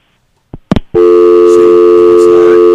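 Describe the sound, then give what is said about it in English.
A call-in phone line on the Media Mink show clicks and clunks as a call hangs up before it starts. Then a loud, steady electronic line tone drones on without a break until the end. “No, you can hear it hanging up before it starts.”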